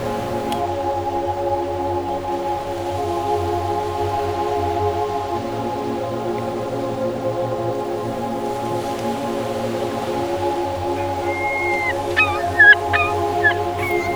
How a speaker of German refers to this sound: Hörst du die Möwen?